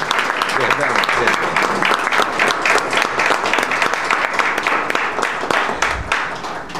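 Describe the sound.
A crowd breaks into sustained applause for Senator Simão, dense overlapping clapping holding steady for several seconds before easing slightly at the end, with some voices mixed in underneath.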